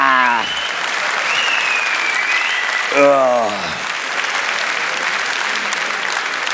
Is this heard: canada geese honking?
no